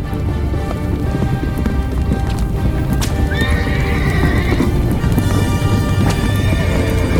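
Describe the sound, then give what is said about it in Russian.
Horses neigh and whinny over a steady, busy clatter of hooves, with a loud rising whinny in the middle; a rain-like wash fills the background and no one speaks. “Кони, внезапно споткнувшись на ровном месте, будто бы уперлись в невидимую стену.”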